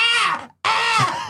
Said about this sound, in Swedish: Lyssna på detta och hör Johaug när hon förstår att hon vinner. Hennes skrik i bakgrunden. Lyssna noga.